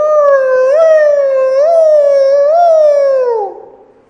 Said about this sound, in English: Every town had bomb sirens that would go off and warn them if they needed to get undercover.